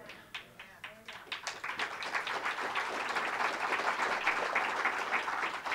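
A crowd breaks into applause, starting with a few scattered claps that quickly swell into steady, sustained clapping from a sizable audience.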